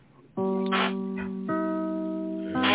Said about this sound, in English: There's them there chimes.